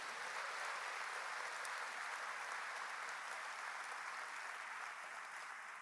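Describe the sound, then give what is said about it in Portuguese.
An audience applauds God during a sermon, a dense wash of many hands clapping that holds at an even level for several seconds with no voices rising above it. “Quem pode dar um aplauso a esse Deus maravilhoso?”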